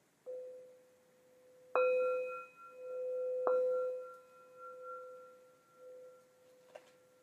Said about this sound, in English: Can ring a bell for everyone.